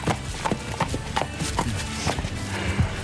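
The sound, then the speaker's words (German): A horse's hooves clip-clop in a steady walking rhythm as the horse approaches, led by a staff member at a riding stable in Liebenberg, with about nine distinct hoofbeats ringing out clear, no voices present. “Auf dem Reiterhof kam mir direkt ein Mitarbeiter mit Pferd Paula entgegen.”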